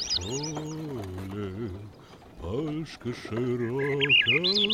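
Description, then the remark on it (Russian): High, bright bird chirps flicker at the start and end in a birch forest in June, threaded over a prominent, steady low voice holding long sustained tones: a coachman singing softly. “Березы радуются летнему наряду, птицы щебечут одна звонче другой.”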